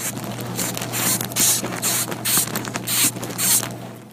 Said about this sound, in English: Somebody blowing up a balloon? No. Styrofoam. Is it someone tightening something? It's not a person. That's a sound a moth makes. It's the insect world.